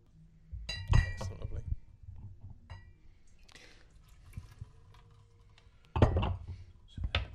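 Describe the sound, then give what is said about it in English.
A bottle of wine from American producer Summer Wolf is opened and poured, with sharp glassy clinks near the start and end and a soft, steady trickle of liquid in between, fairly quiet. “Let's open this. Open this one up.”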